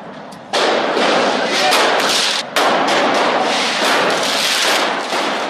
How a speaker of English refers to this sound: Israeli police stormed the mosque and fired stun grenades at Palestinian youths who threw firecrackers at them. This happened inside the Al-Aqsa Mosque, which sits on a hilltop compound holy to both Jews and Muslims.